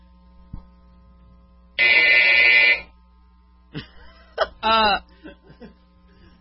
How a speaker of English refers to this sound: That's the buzzer from the emergency broadcast.